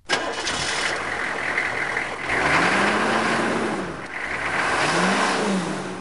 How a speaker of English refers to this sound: the bus has broken down. They don't know how long it will take to fix it.